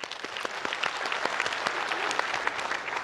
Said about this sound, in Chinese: 的确看见弟兄姐妹你们体贴天父的心，有那怜悯的心带出行动，为你们感谢赞美主，再次给你们自己一个鼓掌。